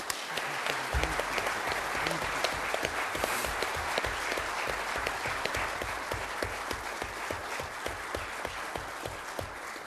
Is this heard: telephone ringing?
no